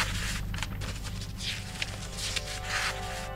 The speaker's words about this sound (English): We're still today opening those boxes, pulling out the fragments, piecing them back together and deciphering them. This is what 2,000-year-old paper sounds like.